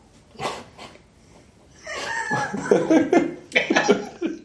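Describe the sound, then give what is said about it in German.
Two short, sharp coughs, then after a brief pause a longer, rougher run of raspy, voiced coughing and throat sounds. “Hust.”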